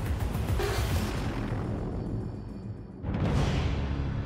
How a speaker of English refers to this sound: On that fatal afternoon, Jack Parsons had been working in his makeshift home laboratory. One theory is he deliberately blew himself up. Another possibility, suggested by LAPD investigators, is that he dropped a volatile chemical by accident.